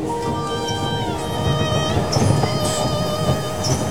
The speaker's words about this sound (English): Father, Brody, June and I waited for the train from Picton.